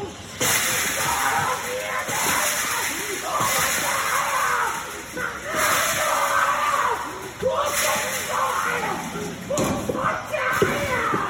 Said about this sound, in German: Blick nach unten aus der zweiten Etage eines Wohnhauses. Der hier zu hörende Mann sitzt vor dem Hauseingang, springt immer wieder auf und tritt gegen einen Bauzaun.